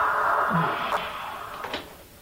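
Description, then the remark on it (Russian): A steady, hissy television background sound runs for a moment, followed by a couple of soft clicks as a man stands up and switches off the television, and the noise fades away. “встает, выключает телевизор.”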